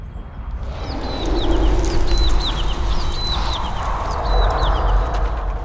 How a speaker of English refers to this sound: Do you hear that? Overhead, flocks of birds take flight.